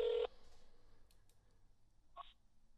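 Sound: telephone being dialed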